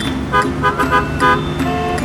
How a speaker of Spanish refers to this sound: O aprender a escuchar la verdadera sinfonía que esconde el tránsito matutino.